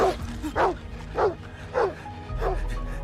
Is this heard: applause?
no